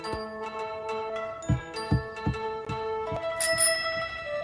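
A bicycle bell rings repeatedly in quick, uneven bursts, its bright metallic tones layering and sustaining, with a final higher tinkle near the end.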